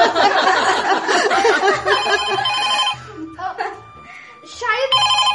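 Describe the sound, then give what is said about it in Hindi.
A telephone rings with a bright, repeating electronic ringtone, loud, while voices and a bit of laughter carry on underneath and in the pauses between rings. “शायद पापा का फोन लगता है।”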